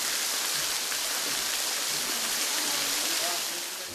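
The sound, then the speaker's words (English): A waterfall at The Dales rainforest on the western end of Christmas Island rushes steadily down sloping rock, a dense, continuous hiss of falling water that stays loud and even throughout without any break. “At sa ibaba lamang nito ay naroon ang talon o waterfall nito.”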